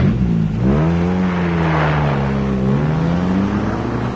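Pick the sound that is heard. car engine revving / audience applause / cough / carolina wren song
car engine revving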